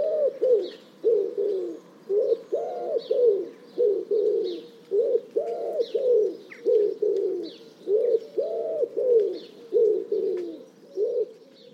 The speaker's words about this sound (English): Whereas the wood pigeon is a more primitive type of bird and its song is inbuilt in it. It's hardwired into it.